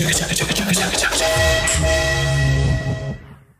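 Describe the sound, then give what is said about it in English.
A loud train horn gives one long, sustained toot with a rich, brassy chord. It follows a short burst of busy noise, holds steady for about two seconds, then fades out. “All right, time for the riff train.”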